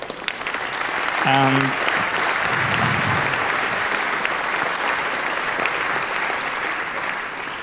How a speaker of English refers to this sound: So let's give a warm round of applause to Christopher and Frederike and invite them on stage.